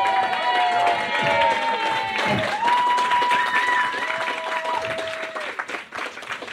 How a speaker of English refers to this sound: Don't try to win us over now with a clap. You fucked it up. Wait till later and you can clap.